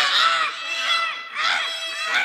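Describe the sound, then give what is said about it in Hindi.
Young crows shrieking in alarm at a snake in front of them, a harsh, raucous squawking that rises and falls in about four loud swells, continuous, with no talking. “सांप को अपने सामने देखकर कौवी के बच्चों ने चिल्लाना शुरू कर दिया।”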